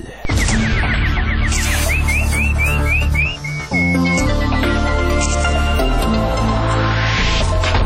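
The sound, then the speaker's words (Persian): A nightingale sings a quick series of bright rising chirps and trills, loud, over a steady throbbing musical backing with no talking. “اینک مشروع خبرها با همکار چهچه زنم بلبل.”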